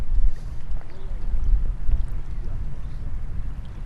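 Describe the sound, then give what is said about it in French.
Outdoor seaside ambience on a seawall built against marine erosion, facing Kraten beach, with a steady low rumble of wind buffeting the microphone and a continuous wash of water, fairly loud and unbroken throughout, with no clear voices. “On est sur la digue de protection contre l'érosion marine. Devant nous, il y a la plage de Kraten.”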